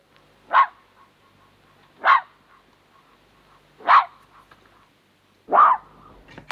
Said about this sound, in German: Es ist ein schreckendes Reh.